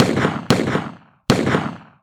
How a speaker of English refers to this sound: Morehouse and his men then opened fire on the Langford gang. The Langford gang returned fire.